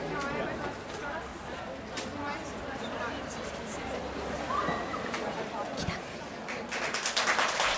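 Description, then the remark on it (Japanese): An audience breaks into dense, steady applause mixed with crowd chatter, the clapping growing louder and more spirited toward the end. “わお、なんだこの拍手は、 ね、あの拍手してくれって一言も言ってないのに、 言ってないのに拍手が来てるっていう。”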